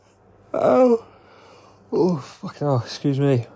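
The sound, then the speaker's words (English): A yawn strained by pain: a short voiced groan, a pause, then a longer stretch of broken, wavering moans and whimpers, moderately loud, with no clear words. “Yawning hurts.”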